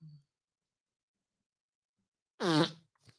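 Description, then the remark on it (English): A single loud, buzzy raspberry blown with the lips imitates a fart, lasting about half a second after a long silence, followed by a brief faint tail. “I'm going to make a fart noise right now.”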